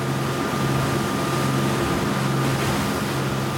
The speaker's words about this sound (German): Zügig pflügt das kleine Charterboot durch die bleigrauen Atlantikwellen. Es ist noch früh an diesem kalten, windigen Morgen auf See.